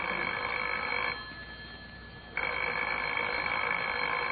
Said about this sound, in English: Well, answer the phone, Lancelot.